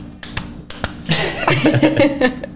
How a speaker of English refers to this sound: So we gotta hit that one time. She clapping for herself too.